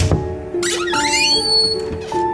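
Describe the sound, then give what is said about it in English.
A door creaks open in a long, drawn-out squeal, its pitch wavering and sliding over about two seconds, fairly loud, with no voices over it, in a radio drama production of The Fall of the House of Usher. “Now allow me to open the door.”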